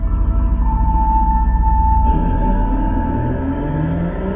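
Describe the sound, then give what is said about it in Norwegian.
The engine of a black armored Mercedes G-Wagen roars steadily and loudly, a deep continuous rumble with a whining tone above it that shifts slightly partway through as the vehicle revs. “Brølet fra den svarte, pansra Mercedes-Geländerwagen.”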